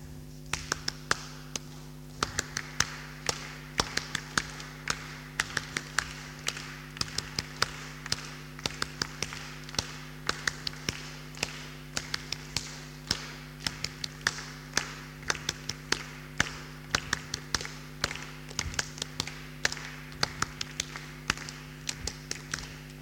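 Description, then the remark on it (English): A group of people clap out a rhythm together, sharp overlapping claps repeating in a steady, patterned beat for the whole stretch, with a low steady hum underneath and no talking. “What should we clap now?”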